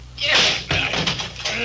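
locked door

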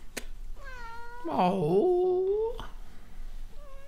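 cat meowing

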